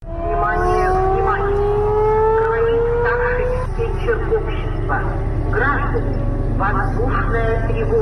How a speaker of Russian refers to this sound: Второй год в городах России звучит сирена.